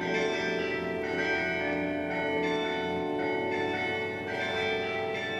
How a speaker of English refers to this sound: The church bells of St. Colman's Cathedral started to ring out their theme song, which was the Cuckoo Song.